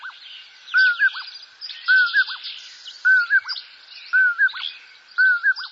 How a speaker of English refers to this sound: Nocturnal birds are seldom seen, but commonly heard. Owls are an obvious example, but so is the common porwill, a migrant whose call is diagnostic throughout Utah.